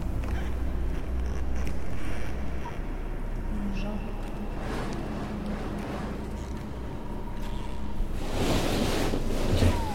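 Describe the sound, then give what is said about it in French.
Wind blows steadily with a low, rumbling roar, swelling in breathy gusts midway and growing loudest near the end. “C'est le vent, je crois.”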